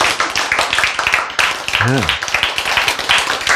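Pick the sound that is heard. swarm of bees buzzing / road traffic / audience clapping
audience clapping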